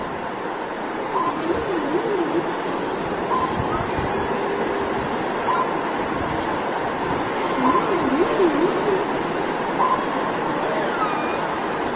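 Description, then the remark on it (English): Ocean waves make a steady, unbroken wash of surf that fills the whole recording at an even level, with a few faint calls drifting through the background. “It's so nice to sit here listening to the sound of the ocean.”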